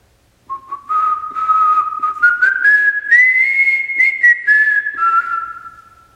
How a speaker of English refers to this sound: Whoever that was whistling, can you give us a whistle again, please?